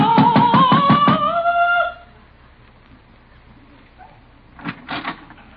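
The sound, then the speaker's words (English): The door of a run-down cottage is opened with a couple of short rattling clicks near the end, following a quiet pause after a singing teacher's loud, warbling, gargling-like singing. “stop gargling and answer the door.”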